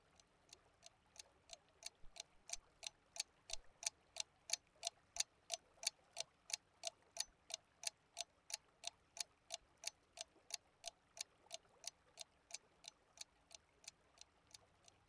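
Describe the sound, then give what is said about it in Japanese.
A clock ticks steadily and crisply, about three sharp ticks per second, clear with no talking, a faint hush underneath. The clock is carried by a clothed rabbit walking past on two legs. “服を着て時計を持った二足歩行のウサギが歩いていったけど、喋るだけの猫なんかよりあっちの方がよっぽど珍しいと思わない？”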